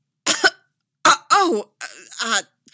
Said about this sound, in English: Anakin coughed, suddenly understanding Palpatine's insinuations.